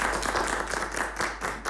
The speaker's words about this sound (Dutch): Ja, applaus.